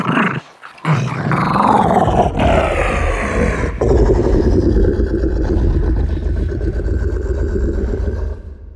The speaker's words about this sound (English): A good example would be the Rancor from Return of the Jedi. That's the monster that Luke Skywalker has to fight in the pit of Jabba the Hutt's palace. The Rancor's growls came from a feisty wiener dog pitched way down.